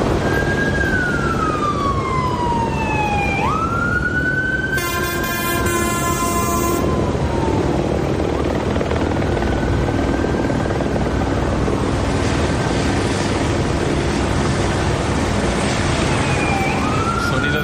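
A police siren wails in long rising and falling sweeps, broken by a brief blaring horn burst, over a constant loud rumble of city traffic and machinery in Los Angeles in the early hours of the morning. No one speaks.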